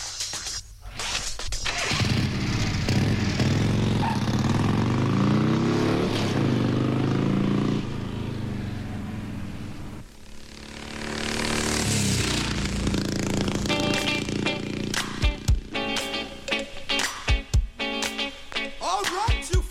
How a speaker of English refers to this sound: Right about now, we got the first rap record from the Bay Area, 1981, Ho Disc Records.